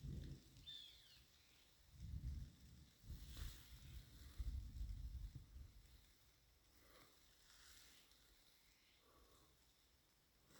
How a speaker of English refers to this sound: It's raining.